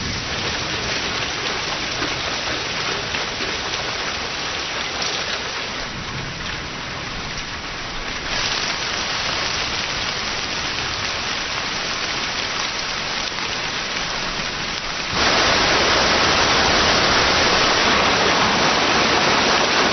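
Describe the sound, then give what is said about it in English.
Heavy monsoon rain pours down in the north of Yunnan, China, in a dense, continuous roar, steady, then swells even louder near the end as the downpour intensifies. No voices are present. “The result is rain in torrents.”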